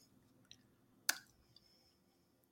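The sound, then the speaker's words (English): A single sharp, brittle crunch as a small, hard, chocolate-covered toffee rectangle is bitten, with faint clicky chewing sounds before and after in otherwise quiet surroundings. “That was a crunch.”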